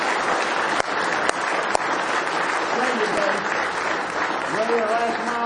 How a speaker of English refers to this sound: Give the Lord one more hand clap of praise if you love Him tonight.